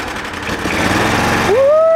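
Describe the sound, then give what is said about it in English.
A 620 cc off-road buggy engine starts and rumbles steadily, then near the end revs up sharply, its pitch climbing into a rising whine. “Get ready to start that engine moving, please.”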